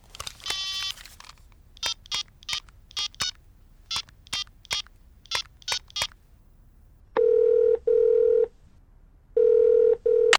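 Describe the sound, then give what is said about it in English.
A quick burst of tone, then eleven short, evenly spaced touch-tone beeps as a phone number is dialed, followed by two long ringing tones with a pause between them. No one speaks. “That's strange. Let's phone him.”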